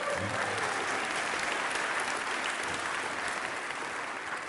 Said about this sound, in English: And yes, applaud Bernie, yeah.